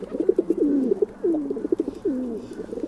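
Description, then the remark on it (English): Soft, low dove coos repeat in rolling phrases, each with a throaty swooping note, steady with no voices present. “When we think of a bird to represent peace, many of us think of doves.”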